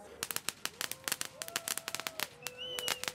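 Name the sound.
firecracker being set off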